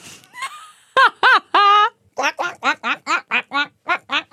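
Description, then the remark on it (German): A person does a duck imitation: a rapid series of nasal, quacking voiced bursts, first a few longer honks, then about ten short, evenly spaced quacks, loud and without other talk. “Mach nochmal die Ente, komm.”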